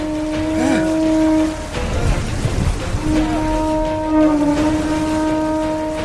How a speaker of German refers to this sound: Hol mir den Tuhunga. Er soll das Muschelhorn blasen. Den Wind besänftigen.